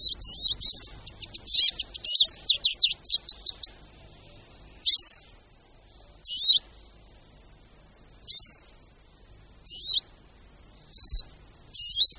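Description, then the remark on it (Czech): A small forest songbird, given the Czech name 'křížek lesní', sings high, thin notes: a rapid run of chirps for several seconds, then short separate phrases repeated at intervals, clear, with no voices. “Křížek lesní.”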